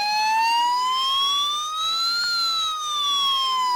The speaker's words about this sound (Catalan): divendres 21 d'abril hi haurà la prova de sirenes d'avís d'accident químic a Sant Celoni i la Vall-llòria. Protecció Civil de la Generalitat activarà les sirenes del nostre sector aproximadament a les 12:20 i sentirem aquest so durant 3 minuts.